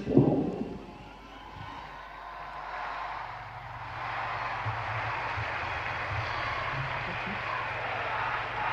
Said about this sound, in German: Applaus als Zeichen der Dankbarkeit und Freude über Papst Benedikt den 16. über den Nachfolger Petrus